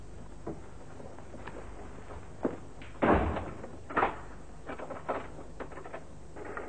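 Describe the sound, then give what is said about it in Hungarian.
A door swings shut with a solid thud as an inspector locks it, followed by a few sharp clicks and rattles like a lock being turned, then scattered small knocks. “Felügyelő úr, megkérhetném, hogy zárja rám az ajtót?”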